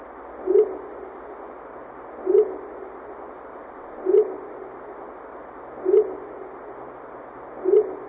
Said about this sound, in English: Oh, that's just an owl during mating season.